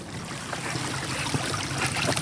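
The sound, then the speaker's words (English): Water flows and gurgles steadily through irrigation ditches in a valley, among fields of apricots, peaches, potatoes and tomatoes, a continuous rushing sound with small splashy bursts and no voices. “We drove up into the valley where water flows through irrigation ditches, sustaining crops of apricots, peaches, potatoes, and tomatoes.”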